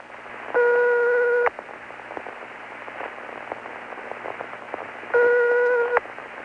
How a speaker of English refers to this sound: This is a recording of some of the tones you may hear from overseas when you dial calls to Luxembourg and Italy. In Luxembourg, when the number you have dialed is ringing, you'll hear this tone.